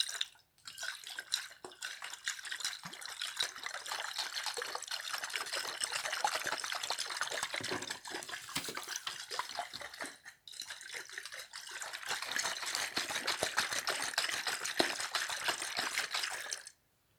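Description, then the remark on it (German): Water runs steadily from a tap with a bright, splashing hiss, broken by a brief pause midway before flowing again, as paws are washed under it. No voices, fairly loud. “Als er damit fertig ist, wäscht er sich am Wasserhahn die Pfoten.”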